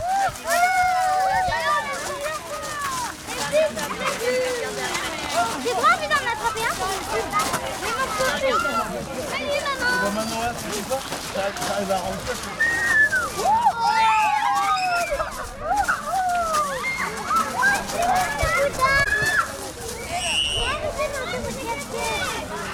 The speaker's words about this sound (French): Évadons-nous un instant au rythme des bulles et des cris des enfants.